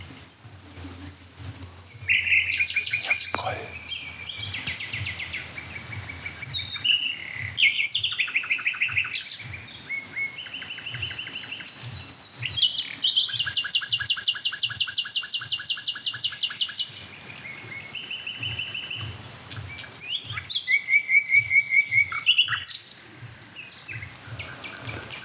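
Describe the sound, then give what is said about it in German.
Five nightingales sing at once in overlapping, varied phrases, among them the one at the house: rapid repeated chirps, pure whistled notes and buzzy trills, dense and loud throughout with no talking. “Das ist die Hausnachtigall. Jetzt haben wir quasi alle fünf zusammen.”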